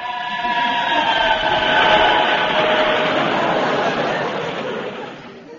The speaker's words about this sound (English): That was a train. Yes, it's a busy time just now, you know.